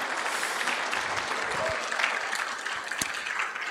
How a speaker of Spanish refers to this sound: De verdad, ¿por qué no les damos un aplauso a nuestros servidores?